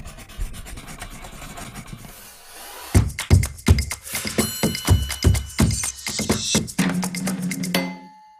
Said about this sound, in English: The sound is a really big part, I think, of the experience of using a pencil. And it has this really audible scratchiness.